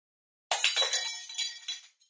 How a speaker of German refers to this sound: Och nein, mein Spiegel ist zerbrochen.